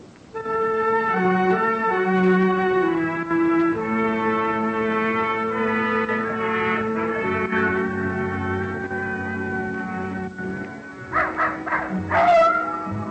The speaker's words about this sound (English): Old Nugget the dog was carrying on a long-distance conversation with his country cousins, the coyotes up in the hills.